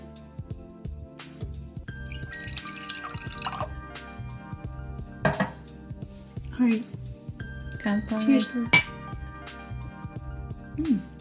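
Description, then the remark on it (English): Canned Suntory Boss Rainbow Mountain Blend double espresso with milk and sugar, unrefrigerated and at room temperature, is poured into a glass, with gurgling, dripping splashes and small clinks coming in uneven bursts over a steady, faint background. “All right, let's do this ASMR. I like the Suntory Black Coffee, so this is a little sweeter than I'm used to, but I do like this brand.”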